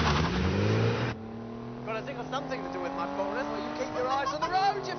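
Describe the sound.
A scarlet Porsche sports car engine roars loudly, then revs and accelerates with a steadily rising whine, while voices talk over the engine noise.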